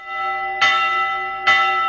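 Church bells ring out in two resonant strikes about a second apart, each clang blooming over a sustained, shimmering hum of overtones left from earlier peals. No voices.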